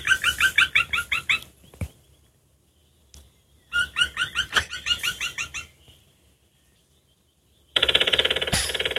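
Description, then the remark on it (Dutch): The largest woodpecker species calls in two loud series of ringing notes, then begins a very long, rapid, heavy drumming roll at the end. The sounds are clear with no talking. “Die heeft een hele lange roffel, hoor je dat? Ja, die was een hele lange, zware roffel.”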